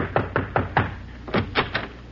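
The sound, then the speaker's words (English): Two quick bursts of firm knocking on a wooden door in an alley, the door of radio announcer Kenny Delmar, four sharp raps then a pause and three more, fairly loud with no voices. “Somebody's pounding on my portal.”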